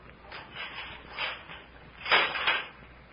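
The heavy door of a great bare stone room in the ruins of an ancient Khmer city is unchained and opened: a few soft metallic rattles and scrapes, then a louder, grinding swell as it swings open, fading out at the end. No voices.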